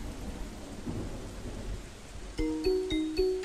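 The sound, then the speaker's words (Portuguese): Steady rain falls outside, hissing with a low rumble of thunder for a couple of seconds, then a short, bright musical jingle of stepped tones cuts in over it. “Ah, não acredito que começou a chover.”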